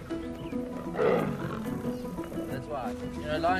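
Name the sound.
lions roaring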